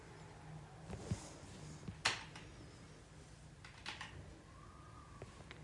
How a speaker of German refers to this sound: warum das hier alles so knackt, Thorsten ist gerade aufgestanden und schließt eine USB-Tastatur an sein Raspberry an